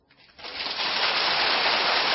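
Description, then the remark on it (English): A crowd breaks into applause for the boys in the Army camps, swelling quickly from near silence into a dense, steady wash of clapping that holds at full strength to the end, with a dull, band-limited tone. “we hope the boys in the Army camps heard that applause for them, and we're all for you, boys, every single one of us.”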